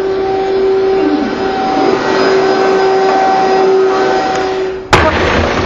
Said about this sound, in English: I'm just going to close that door.